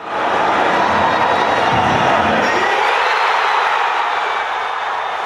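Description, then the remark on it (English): A large crowd of soccer fans in Kansas City roars and cheers the USA's 2–1 victory over Ghana, a dense, loud wall of voices that holds steady throughout, with some lower rumble early on fading after a couple of seconds. “And here, sound from Kansas City at that victory.”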